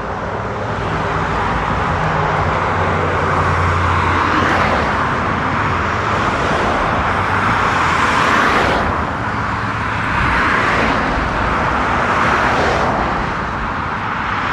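road traffic noise

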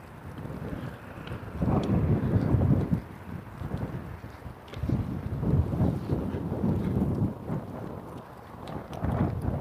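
wind blowing outdoors

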